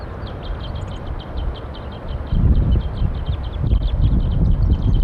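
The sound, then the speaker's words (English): A flock of wild birds calls from the top of a pine tree above a set-up net, a steady stream of short, high-pitched chirps throughout, over a low rumbling wind noise that grows louder midway through. No one speaks. “They're all up in the top of the pine tree above where we've got the net set up now.”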